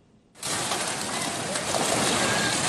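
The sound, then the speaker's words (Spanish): Floodwater of the Perene River, overflowing after intense rains, tears down a riverside house in Chanchamayo province, Junín, Peru: after a brief quiet moment, a sudden loud roar of rushing, crashing water bursts in and keeps churning steadily. “Es la fuerza del agua tumbando esta vivienda a orillas del río Perene en el departamento peruano de Junín.”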